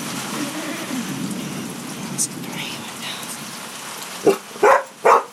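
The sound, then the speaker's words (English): Steady rain falls in a continuous hissing patter, with a brief higher tap partway through, then three loud, sharp barks break in close together near the end. “It was 84 when I checked it last, but that was before the rain came.”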